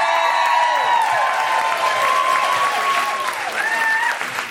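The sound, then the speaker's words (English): A crowd applauds steadily and loudly throughout, dense clapping, with whoops and cheering voices rising over the sustained ovation. “Can we have a big round of applause for Beaver and Alex?”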